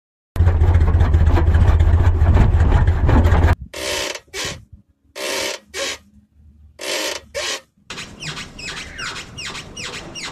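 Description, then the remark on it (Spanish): A car's suspension rubber bushings squeak and grind as they rub against a metal element, starting with a steady low rumble, then a series of sharp, repeated creaking squawks in bursts, fairly loud. “Es un ruido que se genera al momento de friccionar las gomas de la suspensión con algún elemento metálico.”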